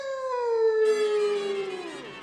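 A single long dog howl, loud, holding a steady tone before sliding slowly downward in pitch over about two seconds, with no talking.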